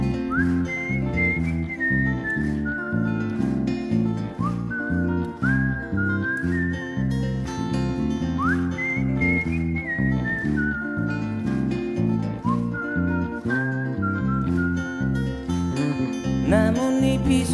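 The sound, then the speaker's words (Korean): A clear, sliding whistled melody carries a tune over a steady instrumental backing, with phrases rising and gliding between notes and repeating across the passage. No voices are heard. “휘파람 불며 걷다가 너를 생각해.”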